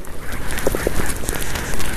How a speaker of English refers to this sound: And it is noisy. This mic captured the squeaks and squawks of an anthill.